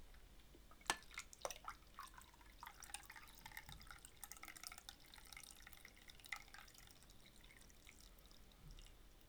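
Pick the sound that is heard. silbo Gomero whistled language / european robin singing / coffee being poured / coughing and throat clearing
coffee being poured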